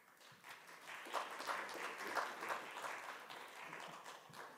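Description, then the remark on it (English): An audience claps steadily for several seconds after the announcements, a dense patter of many hands that swells slightly in the middle and stays at a moderate level throughout, with no one speaking. “It's rare that people clap after the announcements, so that's good.”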